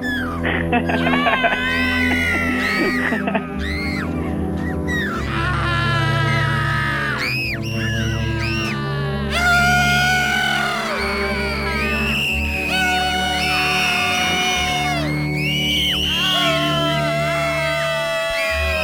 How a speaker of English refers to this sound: Maybe one of them is real. I think it's a polyphonic scream. I mean, what would make someone scream this way anyway?